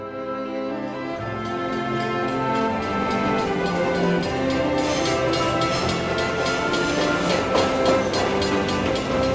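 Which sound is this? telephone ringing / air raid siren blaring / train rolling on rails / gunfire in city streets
train rolling on rails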